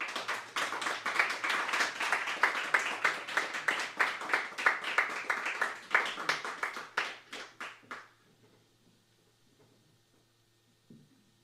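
An audience breaks into loud, steady applause after a presentation, many hands clapping together for about eight seconds before it stops abruptly, leaving near silence with no voices.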